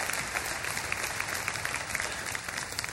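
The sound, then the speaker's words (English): A church audience claps hands in sustained, dense applause, a steady wash of many overlapping claps at moderate loudness with no voices standing out. “So church, why don't we clap our hands?”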